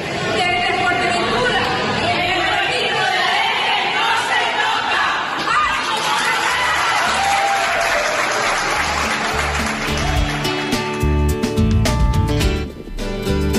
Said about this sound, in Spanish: salíamos al patio a ver las aves y un grupillo de gente dijimos, pues hay que hacer un reconocimiento a estos activistas y bueno, pues en cierta forma les aplaudimos.